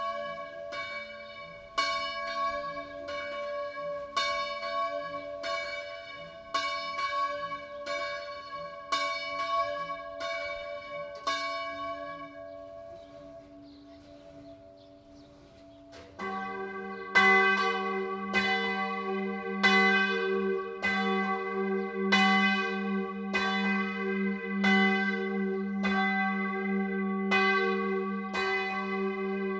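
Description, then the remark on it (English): Swinging church bells in a bell tower ring with a wavering, warbling Doppler tone caused by the bells swinging as they ring, striking steadily about once a second; halfway through a louder, deeper bell joins in, and the peal continues with no voices. “So that kind of warping of the sound, that wow, wow, that's, you know, a Doppler effect because the bell is swinging while it's ringing.”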